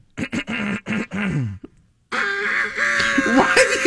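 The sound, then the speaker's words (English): A person imitates a rooster crowing: several short, choppy voiced bursts, a brief pause, then a long, loud, strained call that holds for almost two seconds with a wavering pitch. “That's a cock. Yeah, do a rooster.”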